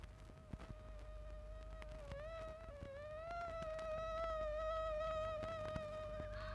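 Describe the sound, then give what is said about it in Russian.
A thin, high-pitched whine of mosquitoes in a stable at night hums steadily, its pitch wavering slightly as it drifts, continuing without a break over a faint low background rumble. “Кто это? Комары? Да-да. На смену мухам прилетели комары.”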